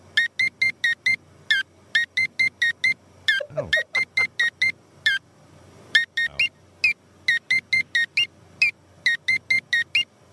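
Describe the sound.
Short electronic keypad beeps in quick rhythmic bursts, stepping between a few pitches to form a catchy tune, with a brief voice exclaiming partway through.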